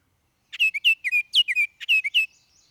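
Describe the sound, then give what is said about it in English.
A Baltimore Oriole sings a short, rich phrase of about a dozen quick whistled notes over two seconds. It is clear, with no voices or other sounds. “And now I do want to give people just a taste of what a Baltimore Oriole sounds like, because they're all over the state right now, a favorite bird of mine.”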